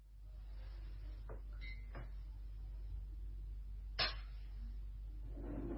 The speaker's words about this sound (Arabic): اغلق الباب عندك